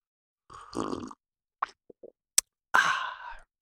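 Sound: sipping coffee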